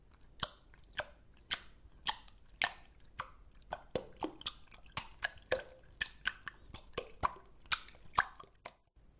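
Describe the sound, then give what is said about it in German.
Fingertips repeatedly snap into water, as if grabbing something beneath the surface, producing a quick series of sharp, wet plops and little splashes at an uneven rhythm, with no talking. “So klingt das Wasser, wenn man mit den Fingerspitzen in das Wasser schnappt, so als ob man unter der Wasseroberfläche etwas greifen möchte.”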